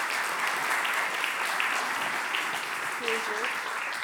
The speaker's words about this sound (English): Would you give them a round of applause?